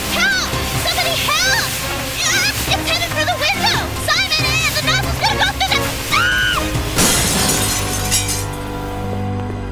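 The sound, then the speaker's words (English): A power sprayer, out of control, blasts water in a steady, loud hiss beneath frantic, overlapping shouting voices, with a sudden crash of shattering glass near the end. “Oh, it's out of control, look out! Turn off the water, off the water!”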